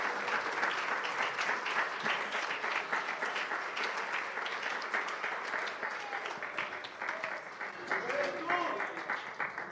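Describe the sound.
A church audience applauds the King of Kings at the end of a sermon, dense overlapping claps sustained throughout at a fairly even loudness, with faint voices and a few shouts rising underneath toward the end.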